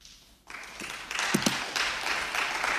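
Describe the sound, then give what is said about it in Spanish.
Applause breaks out in the US Senate after a 60 to 40 vote agreeing to a motion, the first step to end the longest US government shutdown; a dense wash of many hands clapping that swells and holds steady, with a brief low thump partway through and no voices. “Así se aplaude el primer paso para terminar con el cierre del gobierno americano.”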